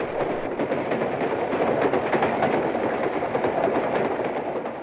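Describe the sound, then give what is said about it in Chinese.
A steady, dense rumble of a train rolling along the tracks, with faint irregular clicks and rattles running through it at a constant, fairly loud level. No voices. “男人思想的这些话语和句子，他从火车的窗口望出去，安静的田野从他的眼前飞过”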